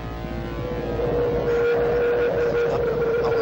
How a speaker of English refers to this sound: This sound at the beginning, I don't even know what the fuck it is. It's some kind of helicopter sound or something. But just listen to this.